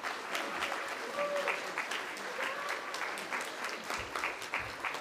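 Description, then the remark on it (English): People at a church service clap steadily for the musicians for several seconds, a dense, even wash of applause with no pauses, moderately loud. “But let's, especially the musicians, give them a round of applause.”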